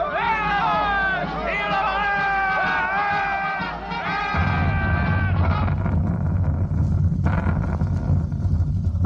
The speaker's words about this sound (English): Soldiers. They're marching this way. The crowd cheering.